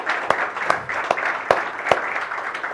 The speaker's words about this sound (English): This is Mother's Day. Let's give our moms a round of applause. Can we do that? Come on, guys. Thank you, moms.